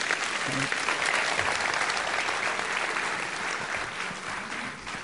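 A church audience applauds steadily for about five seconds, giving thanks to the Lord for a family lawyer invited to speak on marriage and divorce, a dense, even wash of many hands clapping at sustained loudness with no voices standing out.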